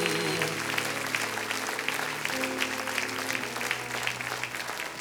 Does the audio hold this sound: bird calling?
no